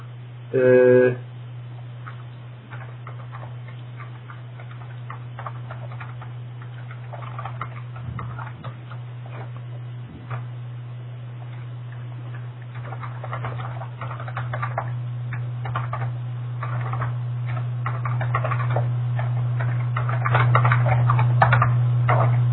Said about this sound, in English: That's a really noisy keyboard.